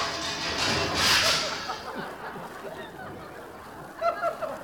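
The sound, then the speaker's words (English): The engine of an old used car for sale runs roughly, a ragged, noisy churn with a sharp hissing burst early on and squeaky, honk-like sputters near the end. “Is that just the engine?”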